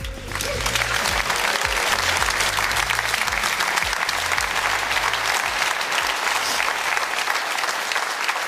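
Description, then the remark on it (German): Sustained, dense audience applause fills the whole recording at a steady, loud level, many hands clapping together in a continuous wash without pauses. “Ich genieße erstmal den Applaus, ich gehe jetzt nach Hause, das reicht.”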